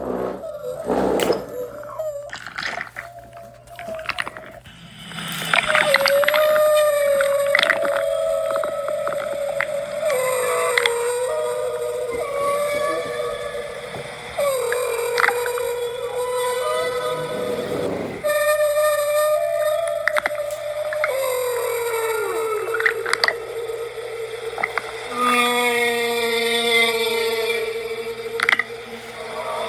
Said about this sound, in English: See how big he is? Wow. So this is what a humpback whale song sounds like.